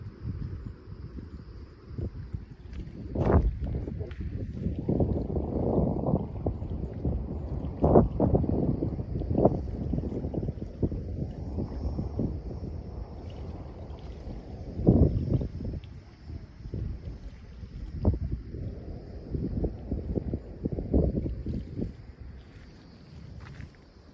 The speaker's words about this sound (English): You might be able to hear the water lapping at the edge. Maybe you can hear the ocean waves breaking on the shore in the distance.